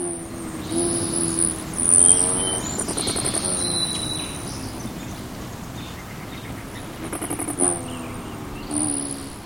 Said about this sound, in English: So, set out a feeder, and before long, you'll be hearing the Rufus hummingbird hovering around your watering hole.